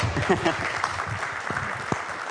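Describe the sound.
A crowd applauds steadily, dense overlapping claps filling the space at moderate loudness, with a few voices murmuring underneath.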